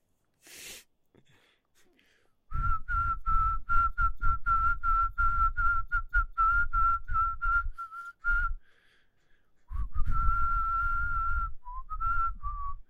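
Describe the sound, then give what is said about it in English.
A person whistles a lively tune, a quick series of bright, clear notes with breathy attacks, pausing briefly before finishing with a few longer, wavering notes. No talking. “My number 3 is whistling. Actually, I'm a really good whistler.”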